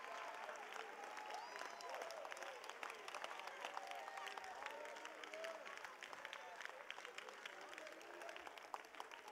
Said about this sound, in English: I think we ought to clap our hands and shout one more time.